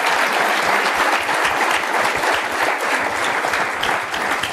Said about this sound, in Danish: Det synes jeg er en rigtig, rigtig god idé. Det vil jeg vil kun give en klapsalve for den rigtig god idé.